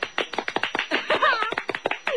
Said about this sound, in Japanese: ラジオを聞いているリスナーの皆さんに拍手してみてはいかが。